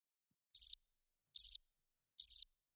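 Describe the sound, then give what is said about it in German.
Crickets chirp in three short, evenly spaced bursts, each a quick trill of high, bright pulses separated by silence, clear with nothing else in the background. “Bitte mal die Grillen gerade einspielen.”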